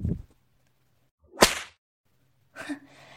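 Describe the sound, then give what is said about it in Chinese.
A single sharp, loud whip lash cracks after a brief pause, followed by a softer, rustling swish near the end. There is no talking. “主人这下抽得很好吧？再给你好好来一下，怎么样？”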